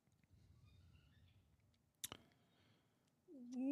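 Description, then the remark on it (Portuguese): A single sharp mouse click, a quick double tap, breaks a quiet, low background hum as someone clicks through fight picks on a computer; near the end a voice starts up. “Cliquei tudo errado aqui nesse caralho.”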